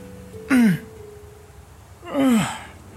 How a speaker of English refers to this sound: The Icon of War shook his sleeping brethren by the shoulders, and after a fair effort, he woke, his eyes slowly flickering open, letting out a yawn as he sat up with a stretch.